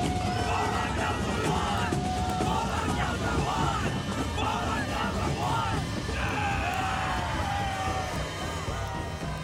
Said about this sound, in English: Let's go to camera two and show everyone the crowd gathering here tonight.